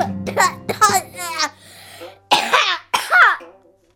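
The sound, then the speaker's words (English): A few short voiced utterances give way to two harsh coughs about half a second apart, each a loud rough burst, before the sound trails off into quiet. “Yeah, so you know, guys, that's a cough.”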